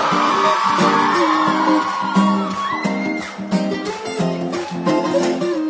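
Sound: people yelling and whooping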